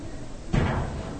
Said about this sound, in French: Le bruit de la porte de la chambre qui s'ouvre lui fait ouvrir les yeux. Il regarde devant lui en direction de la porte qui maintenant se referme.